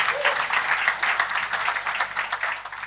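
Steady audience applause, a dense patter of many hands clapping at a fairly even loudness throughout, with no voices standing out; a big round of applause for a guest just before a Crystal Clear recording starts.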